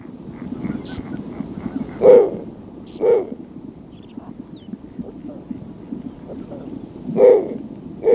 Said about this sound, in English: let's listen to the sound of the snowy owls